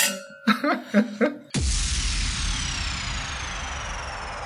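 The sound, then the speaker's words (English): A few short vocal bursts, then glasses clink together in a toast with one bright, fairly loud strike whose ringing tone slowly fades over several seconds. “Can we cheers to that? No. Just to cheers, …. Cheers. Oh, cheers.”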